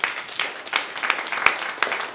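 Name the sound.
audience clapping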